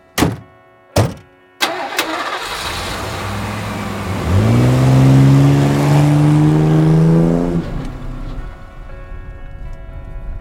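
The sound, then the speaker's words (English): Two sharp thuds, then a big truck's engine turns over and idles before revving into a loud, rising drone that holds for a few seconds and then eases off as the truck drives away. “Now, go get in that big britches city slicker truck of yours and follow me nice and close. We are going for a ride.”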